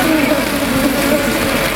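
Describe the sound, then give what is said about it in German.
A dense, steady buzzing drone from a honeybee swarm of thousands of bees, continuous and fairly loud throughout, with a low humming tone and a hissy, rustling texture layered over it. “Ich finde es wirklich immer wieder beeindruckend, wenn man einen Bienenschwarm so nach hört.”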